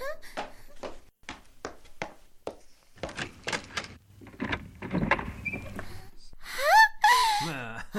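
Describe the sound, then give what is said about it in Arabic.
A series of sharp, evenly spaced taps gives way to shuffling noise, then a door swings open with a loud, wavering creak of the hinges as a boy opens it for his father. “افتح الباب”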